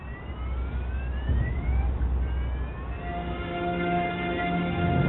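car safety alarm ringing

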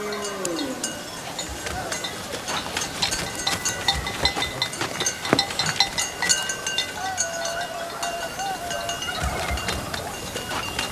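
flock of sheep bleating

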